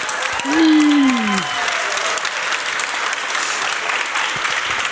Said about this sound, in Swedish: Och det gör vi här i Umeå. Ja, inför publik. Inför publik. Här finns det en publik. Kan ni applådera?